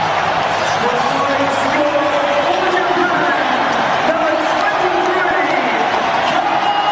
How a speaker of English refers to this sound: Well, it's impossible to get a word in here amongst the roar of the crowd. It is just incredible.